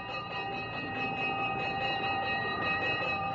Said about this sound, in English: A hand pulled the signal of a firebox. The fire trucks and the police riot cars responded.